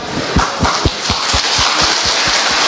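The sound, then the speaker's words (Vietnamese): Steady rain hisses, with a soft, regular thudding underneath, like drops striking something. No one speaks. “Trời nó mưa đó anh chị em”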